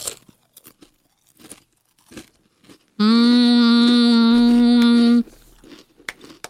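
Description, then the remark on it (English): Scattered crisp crunches of someone biting and chewing Dorito chips stacked with several taco-style flavors, broken up midway by a loud, steady buzzing tone lasting about two seconds before the crunching resumes. “All right, if you do it right, you can stack them all on a Dorito.”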